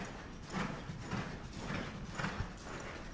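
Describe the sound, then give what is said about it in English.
Horse hooves clip-clop on the ground in a steady, repeating rhythm, about two soft thuds per second, moderately loud, as a horse in charro riding spins around one planted hind leg and reverses the spin, on a horse ranch near Des Moines, with no one talking. “solidly planted hind leg. With a slight prod, she reverses the spin.”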